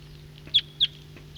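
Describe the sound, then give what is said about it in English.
Two sharp, high-pitched wild bird calls ring out about a third of a second apart, standing out clearly over a steady low background hum, with no talking. “Start recording wild birds.”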